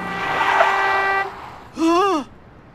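A car approaches on a street with a long, loud horn blast, followed after a brief pause by a shorter wavering honk or tire-like squeal, without any talking.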